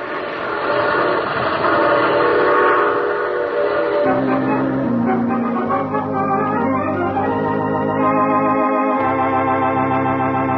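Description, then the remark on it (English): In the radio drama The Mysterious Traveler, a train rumbles and clatters, then its whistle sounds in long, loud, sustained blasts that slide in pitch as it pulls into a station, with no one talking. “Oh, you have to get off here. I'm sorry. But I'm sure we'll meet again. I take this same train every week at this time.”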